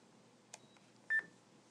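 An electronic calculator gives a single short, bright beep, preceded by a soft click as its switch is turned to the calculator position. The background is quiet and no one speaks.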